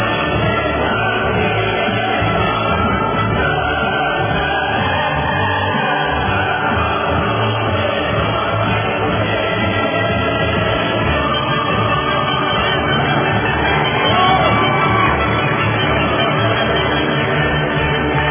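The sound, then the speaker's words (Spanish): Sustained audience applause for a video, a dense, steady wash of clapping that stays at an even, fairly loud level for the whole stretch, with no voices rising above it. “Démosle el aplauso a ese video, muy bien hecho realmente, excelente, excelente.”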